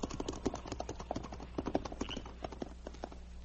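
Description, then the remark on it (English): Horses' hooves clip-clop in a quick, uneven rhythm of many sharp knocks, with a low steady rumble underneath, as riders turn their horses around and move off at a trot. “Turn your horses around and get going.”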